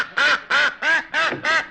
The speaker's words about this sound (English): What is all the commotion? Oh, it's that darn duck again.